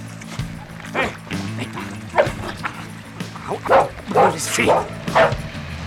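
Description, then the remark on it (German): A dog barks loudly at a boat landing, a rapid, irregular string of sharp barks and yips over several seconds, with low voices and a steady hum underneath. “als Timmy, der unten am Anleger geblieben war, laut zu bellen anfing”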